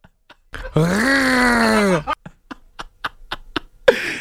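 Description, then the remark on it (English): A voice imitates a buzzsaw and lawnmower with a loud, harsh, sustained buzzing growl lasting over a second, followed by a string of short, sputtering bursts. “You sound like the mix of like a buzzsaw and something else and like a lawnmower.”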